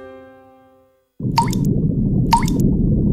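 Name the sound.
water dripping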